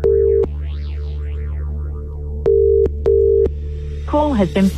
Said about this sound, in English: So we have selected a number at random from all of today's correct entries. Let's make this phone call. Come on. Don't miss this, please.